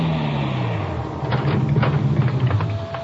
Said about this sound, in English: It was raining as I pulled up in front of Mola's bookshop.